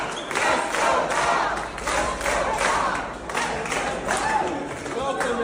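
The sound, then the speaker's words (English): A loud crowd cheers continuously for Bob Ferguson, with a rhythmic group chant of "Let's go, Bob!" pulsing through the roar at a steady beat. “so this was just posted on Bob Ferguson's Twitter account, and it shows everybody cheering for him.”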